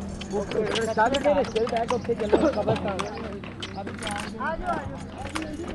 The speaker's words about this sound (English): A horse-drawn cart nearly collapses under the weight of a dozen people as it ferries Shazia's family to the cemetery where she is buried.